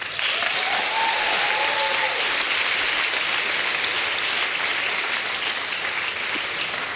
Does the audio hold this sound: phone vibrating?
no